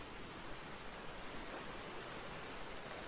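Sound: rain falling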